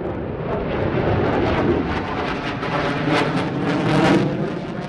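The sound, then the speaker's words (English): A loud, continuous jet roar of fighter planes thundering overhead at an airbase in Shandong while dropping flares, a broad rumbling thunder that swells and surges slightly as they pass, with no voices. “Another stop was at an airbase in Shandong, where fighter planes thundered overhead, dropping flares.”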